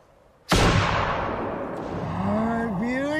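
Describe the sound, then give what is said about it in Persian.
A single sharp rifle shot cracks out loudly, its echo rolling away over a couple of seconds while a voice begins speaking underneath the fading tail. The rifle is fired by someone who is handed it during a trade and told to pull the trigger and shoot in one direction. “بگیرش، ماشه رو بکش، فهمیدی؟ شلیک کن، اون سمت، اون سمت.”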